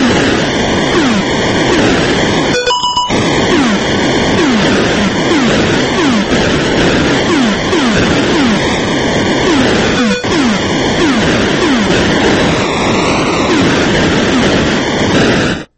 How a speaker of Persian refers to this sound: بله، ترکید اینجا، هواپیمای ریور رایت آتاری ترکید.